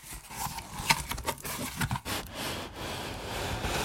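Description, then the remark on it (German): A cardboard gift box, its wrapping paper already torn off, is opened; it turns out to hold a plaster bust. A run of scraping, rubbing and rustling bursts, with a few sharper tearing snaps early on, then a steadier scuffing until the end. No one speaks. “Öffne den Karton, Fahrradschrauber.”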